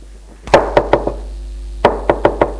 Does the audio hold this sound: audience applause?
no